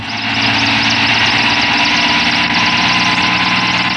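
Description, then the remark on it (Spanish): A helicopter engine roars steadily and loudly throughout as the helicopter circles in the air and resumes its descent, with a rapid, rhythmic rotor chop pulsing over a deep, droning hum. No voices are heard. “El helicóptero traza un círculo en el aire y reanuda el descenso hacia los indefensos fugitivos.”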